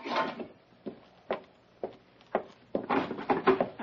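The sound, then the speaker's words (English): A wooden door is worked open: a series of sharp clunks and knocks spaced apart, then a busier burst of rattling bumps and scrapes. No one speaks. “Open this door for me.”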